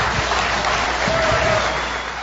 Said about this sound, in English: Can I get a round of applause for the panelists?